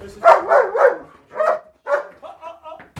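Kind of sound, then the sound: animal, german shepherd dogs barking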